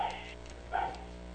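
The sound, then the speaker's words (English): The speaker's own dog barks twice in quick succession, sharp, over a steady low electrical hum with no one talking. “Hang on a minute, I have to go smack my dog.”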